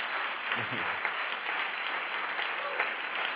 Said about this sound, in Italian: Ah, bene, bene, quell'applauso non mi è piaciuto. Se vogliamo fare un applauso, lo facciamo bene, lo facciamo forte e lo facciamo a Dio.